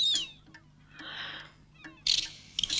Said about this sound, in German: Dann hört euch bloß die Sperlingspapageien an.